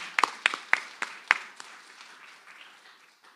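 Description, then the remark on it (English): Congregation applause at Brown Line Vineyard, thanking everybody: a handful of sharp, distinct claps stand out at first, then blur into a softer patter that thins and fades out within a few seconds. No one speaks. “One last applause.”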